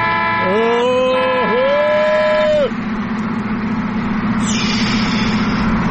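A loud, steady car horn honked at the driver of a Nissan blares for about two seconds with a brief dip midway, like two quick presses, over a constant low engine rumble that continues after the honk stops.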